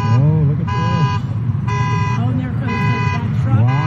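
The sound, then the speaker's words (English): Several car horns blare in repeated bursts, overlapping with a wailing car alarm, loud, while a man talks underneath, as cars float in a flooded parking lot in the Santa Cruz area after waves from a volcanic eruption. “There's cars floating in the parking lot. There's a car. Horns going off.”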